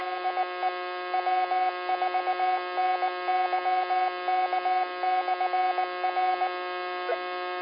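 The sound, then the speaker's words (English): Morse code repeater identification, the repeater identifying as W4YK: a mid-pitched tone keyed in quick dots and dashes in irregular groups for several seconds, over a steady, thin radio hum, with no voices. “I keep hearing all this Morse code on here.”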